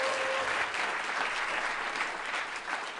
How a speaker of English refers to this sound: She wasn't manning the applause sign, so she didn't get it very good. Try it again.